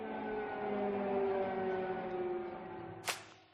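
Sirens wail in a sustained, droning tone that drifts slowly in pitch, holding steady for several seconds before a brief sharp crack near the end. No voices are heard.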